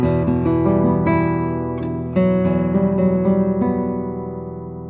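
An E minor chord on guitar from the start of a Villa-Lobos prelude, its plucked notes ringing together over a steady run of repeated attacks, fairly loud and sustained, with no voices.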